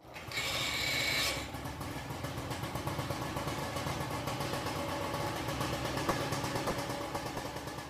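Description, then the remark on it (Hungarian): An old fire pump engine, received in 1974, with an 800-litre-per-minute pump, runs steadily, a loud, fast, even chugging rattle throughout, with a brief hissing rush of air or water near the start. “Ez a tűzoltó motor, ez a 1974-ben kaptuk meg, 800 liter per perces szivattyúja van neki, de egy turbinája mindene megvan öregedve,”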